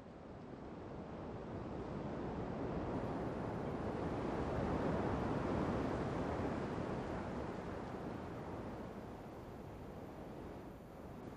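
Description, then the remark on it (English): A continuous wash of ocean surf breaking on the shore, swelling gradually to a broad roar midway and easing off again, steady and enveloping with no voices present. “As you breathe, so do the waves.”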